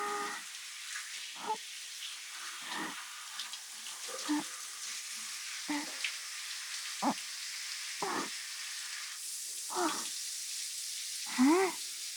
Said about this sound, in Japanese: きれいに流して、指の間に残ったのもきれいきれいに。そのまま次は左腕も、シャワシャワシャワシャワシャワシャワ。